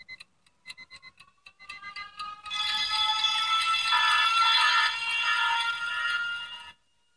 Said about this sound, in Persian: ساعت به صدا در آمد.